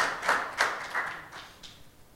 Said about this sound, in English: Okay. Let's try it then. You can come up to the front. Everybody clap.